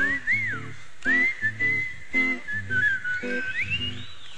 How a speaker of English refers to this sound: Whistle with me. Come on, whistle.